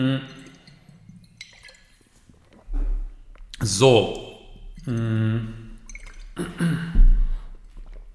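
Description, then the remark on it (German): Someone takes a quick sip of water, with a few brief wet swallowing sounds and breaths before a short spoken word. “Und ich nehme schnell einen Schluck Wasser, weil sich sonst mein Hals verabschiedet.”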